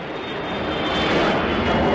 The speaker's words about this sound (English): This is no ordinary plane ride. I'm on a very loud NATO surveillance plane, a 707, with a huge mushroom-looking radar on top of the aircraft. We're flying over the Baltic states.